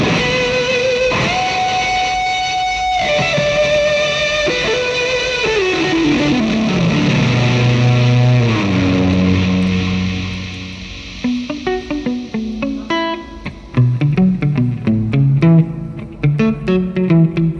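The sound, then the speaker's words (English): An electric guitar drenched in the amp's deep, warbly reverb with gritty distortion added, long sustained notes sliding downward into washy tails, then shifting to choppier picked notes that ring out. No talking. “And then if you add some grit to it at the end.”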